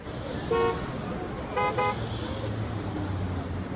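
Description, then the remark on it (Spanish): Car horns honk over a steady rumble of city traffic in a city with hundreds of cars, tall buildings and crowds of people walking: one short toot, then a quick double beep a second later, loud against the constant road noise. “Luego tomaron un ómnibus. Vieron cientos de coches, edificios altos, montones de personas caminando juntas.”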